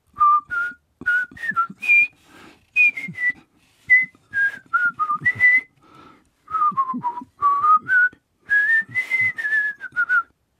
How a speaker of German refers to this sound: konzentrierte sich darauf, die Melodie richtig zu pfeifen. Doch es klang immer noch ziemlich falsch.